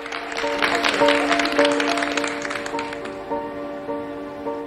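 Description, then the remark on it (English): A crowd applauds with a dense patter of clapping that gradually thins toward the end. A steady sustained musical tone hums underneath. “faces beam with smiles as they applaud.”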